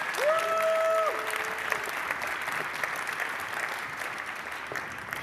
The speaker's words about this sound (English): please give them a big round of applause for this talk.